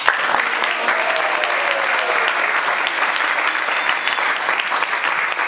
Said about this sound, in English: Gopi singers, they are better than in the rehearsal. Applause.